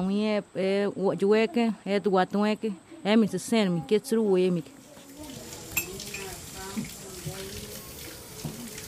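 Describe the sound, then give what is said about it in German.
A voice speaks clearly for a few seconds, then gives way to a 50-year-old woman cooking in the large kitchen of her house for and with her extended family: running water from a tap, light clinks of dishes and cutlery, and soft background clatter. “steht in der großen Küche ihres Hauses und kocht für und mit ihrer Großfamilie”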